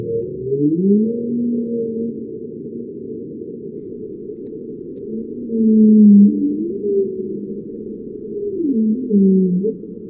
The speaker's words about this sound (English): Shell is using acoustic monitoring to better understand how whales respond to noise. This is a sample of the whale calls they've recorded.